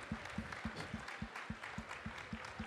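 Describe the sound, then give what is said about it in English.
An audience applauds the King of Kings as an offering to the Lord, in a steady, rhythmic beat, many hands clapping together with a dull low thump on each pulse, loud and continuous with no voices heard. “Let's give him applause, a cloud offering to the Lord, a fuerte, King of Kings.”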